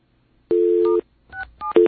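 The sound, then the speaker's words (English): A steady half-second telephone tone on a Bell Atlantic line is followed by three short touch-tone dialing beeps in quick succession as star 6-7 is dialed to block caller ID, each a clear two-pitch electronic chirp, with no voices. “Can we do star 6-7 from these lines? Let's find out. Whoops, I hit the wrong number.”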